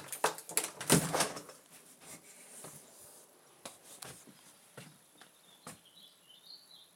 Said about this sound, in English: Now let me just open the back door.